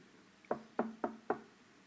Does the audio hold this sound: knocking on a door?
yes